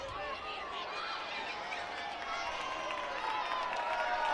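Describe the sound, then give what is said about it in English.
A ballpark crowd on a rainy night applauding a young fan who caught a pop fly that landed in the seats; a dense, steady wash of clapping and murmuring voices that swells a little louder partway through. “applause for the young fan who came up with it.”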